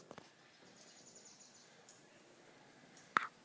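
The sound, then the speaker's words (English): A quiet, hushed background broken near the end by a single short, sharp bird call, with a few faint high chirps drifting in earlier. No one speaks. “Oh, that is the bird call.”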